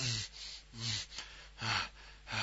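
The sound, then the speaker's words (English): Heavy, rapid panting breaths from two people who have just stopped kissing, about five breathy pulses in steady rhythm, each a loud rush of air with no talking. “We stop kissing and just staring into each other's eyes, panting furiously.”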